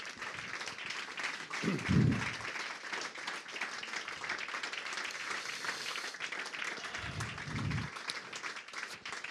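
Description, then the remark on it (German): Steady applause from an audience fills the whole stretch, a dense patter of many hands clapping, with a couple of brief low thumps partway through. “Da man das immer nicht so genau zuordnen kann, wir haben jetzt so viel gemacht, jetzt habe ich auch noch Musik gemacht, Sie haben so nett applaudiert.”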